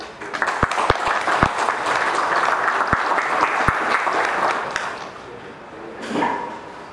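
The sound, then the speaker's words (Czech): An audience at a commemorative gathering of the Czech Republic army association applauds decorated members with a steady, dense wash of clapping, a few sharper claps standing out, for about five seconds before it fades away. “Vyznamenaným předsedou VSR armády České republiky patří potlesk.”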